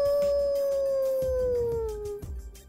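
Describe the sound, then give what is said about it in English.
A single long wolf howl in the middle of the day holds a steady, clear tone and slowly slides lower in pitch, loud, with faint rustling noise underneath and no talking. “What are wolves and owls doing awake at a time like this?”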